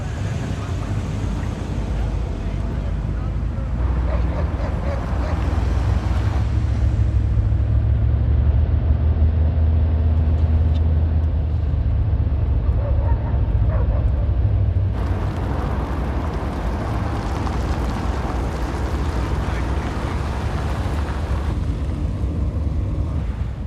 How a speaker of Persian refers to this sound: یه ماشین میاد تو. باشه، امنه. برو جلو.